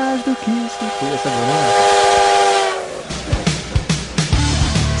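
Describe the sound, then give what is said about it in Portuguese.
A steam whistle sounds loud, its tone wavering and sliding for about three seconds over a steady hiss, then gives way to the chugging, rhythmic clatter of a passing train. “A gente vai ter que fazer um outro intervalo para não ser atropelado aqui pelo trem. Deixa o trem passar.”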